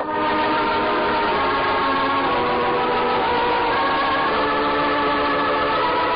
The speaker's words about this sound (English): Timken took us out in the field, and we watched the jet take off and climb toward the west. It circled, climbing till it was out of sight.